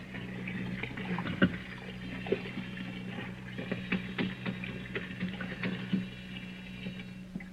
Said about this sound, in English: There's the sink. Some hot water. There, that's it. A wash rag around the sink bowl.